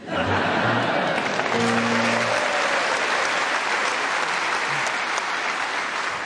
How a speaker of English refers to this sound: And still you clap.